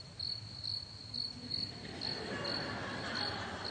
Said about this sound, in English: That's not a cell phone. That's crickets. Dead air. Silence. Nobody said a word.